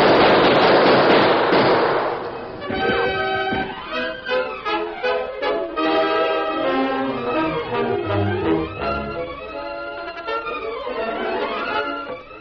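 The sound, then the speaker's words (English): A loud, rapid burst of gunfire from a shootout in a Lone Ranger radio story crackles for a couple of seconds, then gives way to a sweeping orchestral music passage with no voices. “Gun them down”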